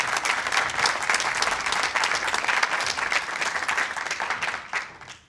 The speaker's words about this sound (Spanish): Denle un aplauso a los caballeros. Muchas gracias.